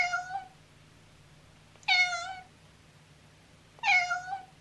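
A cat meows three times, evenly spaced about two seconds apart, each call clear, with a low steady hum running underneath and no voices.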